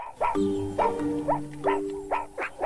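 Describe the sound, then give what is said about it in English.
A rapid series of sharp, high-pitched alarm barks from meerkats warning of an approaching predator, repeating roughly every half second over a low steady hum, clear with no talking. “And finally, they start to bark.”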